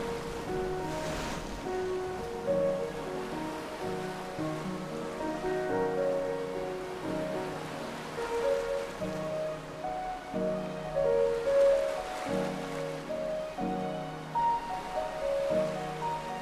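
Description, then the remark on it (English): Steady wash of water waves, a continuous soft surf-like rush, with gentle melodic tones floating over it throughout; no one speaks. “A melody of water.”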